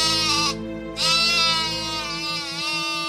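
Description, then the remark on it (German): A Dall sheep in Alaska bleats loudly, one long wavering, nasal call stretching about three seconds with a brief dip in brightness near the start, no voices around it. “Dann flinke Dallschafe.”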